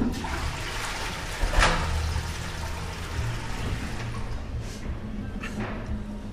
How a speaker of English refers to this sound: Flush away, mate.